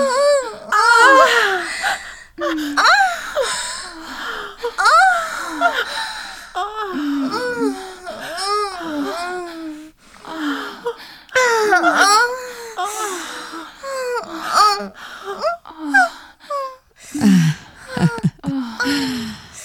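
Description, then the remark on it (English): Heavy, rapid panting and sharp gasps from a person lying flushed, loud, mixed with voiced moans and whimpering sighs in an uneven rhythm for nearly twenty seconds, with no clear words. “Look at you, lying there, flushed and panting, like a warrior dying on the battlefield.”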